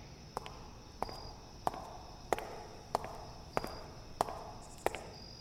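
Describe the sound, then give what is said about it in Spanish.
Footsteps of a late pedestrian walk up a side street at night at a steady, unhurried pace, about eight crisp heel strikes evenly spaced, fairly quiet over a faint background hum, with no one speaking. “Entonces, escuchó unas pisadas que ascendían por la traversal.”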